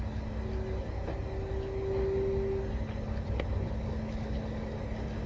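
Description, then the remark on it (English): A big green garbage truck collecting garbage rumbles steadily, a low droning roar with a faint whine that swells slightly midway as it rolls past, with no voices. “See those garbage guys? I want to see what they're doing. There goes the big truck.”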